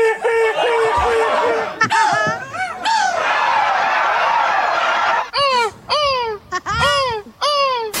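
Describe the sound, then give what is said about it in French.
A person loudly imitates a seagull's cry at a world championship of seagull calling, doing a 'castrated seagull': first a long wavering squawk, then a run of short, sharp, falling shrieks in quick succession. “Moi, je voulais préciser que je vais faire la mouette castrée.”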